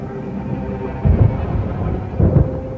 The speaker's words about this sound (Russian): Из края в край неба прогрохотал гром,